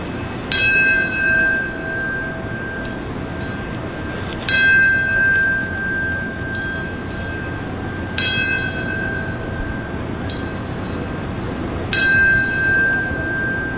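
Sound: memorial bell tolling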